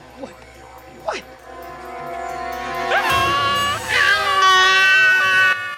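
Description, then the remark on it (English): After a few quiet seconds with a brief faint squeak, loud, sustained frightened screams from two men burst out as a kangaroo wakes up in their vehicle, continuing to the end; a scene from the film Kangaroo Jack. “Lewis and Jack scream.”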